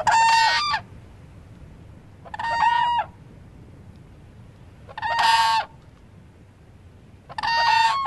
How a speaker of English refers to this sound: So hence the name. That's the whoop sound of the whooping crane, Ann? That's an alarm call. So a pair of birds that might sense something wrong in their territory.